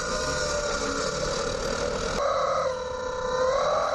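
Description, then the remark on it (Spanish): A loud, continuous squawk from a rubber chicken skewered on a car's exhaust pipe outlet while the car is driven, a harsh nasal screech that wavers and shifts pitch partway through, with no talking. “Este sonido que vamos a escuchar es el que produce tu coche cuando llevas un pollo de goma en el tubo de escape.”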